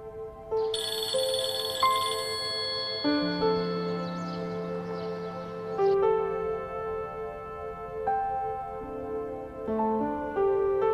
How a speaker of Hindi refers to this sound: तुम्हें तुम्हारी अम्मी का वास्ता, फोन उठाओ।